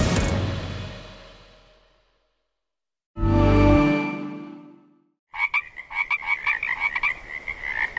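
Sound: frogs croaking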